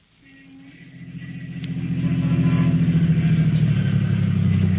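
A car carrying two men pulls to a stop in front of a house in East Baltimore, its engine rumbling low, growing louder over the first couple of seconds and then holding a steady, throbbing idle. No voices.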